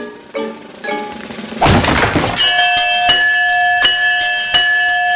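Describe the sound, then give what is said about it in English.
Daddy Pig in Peppa Pig strikes a fairground strength tester with a hammer: a heavy thud bursts into a noisy crash, then a bright bell rings out and keeps clanging in four evenly spaced strikes, its high tones sustaining between hits. “Give me that hammer.”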